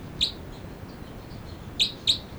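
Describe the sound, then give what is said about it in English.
Two birds, numbered 305 and 306, chirp in three short, high, clear notes: one alone, then a quick pair near the end, with a few faint softer peeps between them over a low steady background hiss. “Both birds.”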